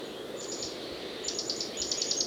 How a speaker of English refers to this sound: The Mexican jays are still carrying on behind them.